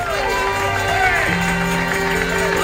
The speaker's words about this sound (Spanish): Sella esto con un aplauso al Señor.